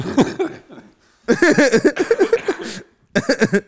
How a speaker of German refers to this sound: Boah, ich bin gerade wie so ein alter Raucher. Einfach der statt da Lachen nur mehr, kann nicht mehr lachen, sondern nur mehr husten.